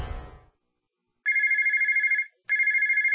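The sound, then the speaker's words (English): A telephone rings in two electronic bursts, each a steady warbling trill of about one second, with a short pause between them; a brief low rumble fades out just before. “If you're in a service business, that's money ringing in your ears. If your phone's not ringing, chances are it's a problem with your marketing.”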